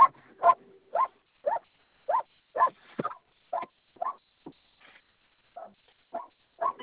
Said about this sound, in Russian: Ой, собака маленькая.